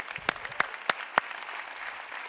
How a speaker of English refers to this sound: why don't you give them a clap when you see them? Amen?